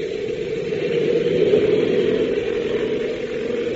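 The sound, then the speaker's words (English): A steady, loud engine drone holds at an even level throughout, a dense mid-pitched roar with a constant hiss above it, as aircraft engines are started and the plane taxis out to the runway. “they start the engines and taxi out to the runway.”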